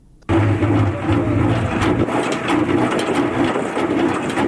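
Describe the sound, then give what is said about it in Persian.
A honey extractor machine used for beekeeping in the high mountains of Andarab, Baghlan province, starts abruptly and runs steadily, giving a loud, continuous rattling whir over a low droning hum, with no voices. “این صدای ماشین عسل‌کشی در کوههای بلند اندراو است.”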